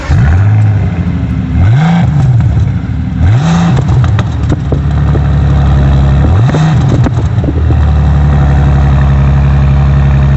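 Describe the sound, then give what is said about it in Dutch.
A Bentley Continental GT car engine rumbles loudly, blipped through four quick revs that rise and fall, then settles into a steady, deep idle with no one speaking. “En dat was dus een Bentley Continental GT.”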